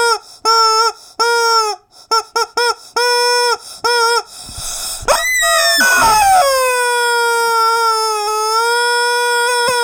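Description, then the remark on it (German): A loud warning siren: a string of short, choppy tonal blasts, a brief pause and burst of noise, then one long, steady wailing tone that holds to the end. “Die Quatschbrötchen-Sirene. Ich glaube, so funktioniert. Sie klingt sehr traurig.”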